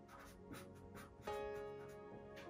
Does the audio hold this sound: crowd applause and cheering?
no